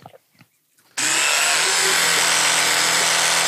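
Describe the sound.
After a second of faint murmuring, an electric toothbrush starts buzzing loudly as someone brushes their teeth with a little water in the mouth, a steady drill-like whine whose tone wavers slightly as the mouth opens and closes around it.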